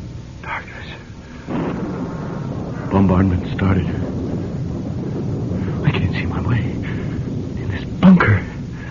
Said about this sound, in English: Knew there'd be a storm tonight. Storm? Thunder?